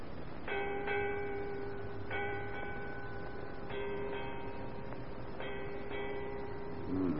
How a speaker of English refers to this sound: Eight bells, Captain. Aye. 8 bells, mate.